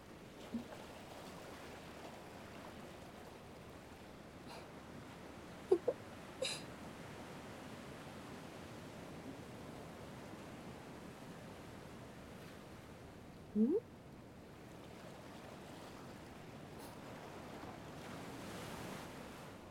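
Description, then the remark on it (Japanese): Steady ocean surf washes continuously onto a shore, a broad soft rushing that swells and recedes, with a few brief faint clicks and chirps over it and no talking. “聞こえなくなっちゃった。あとは波の音だけ。”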